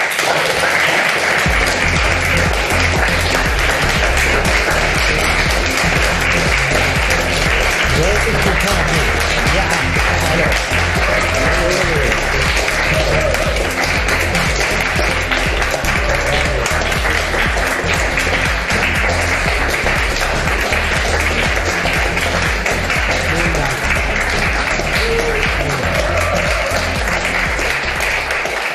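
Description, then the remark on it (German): A large crowd claps loudly and continuously, a dense, steady roar of applause that fills the whole stretch without letup, with faint voices buried underneath. “Haben so wild geklatscht, dass man die Musik kaum gehört ich hat.”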